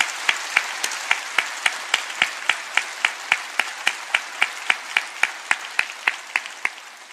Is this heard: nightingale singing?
no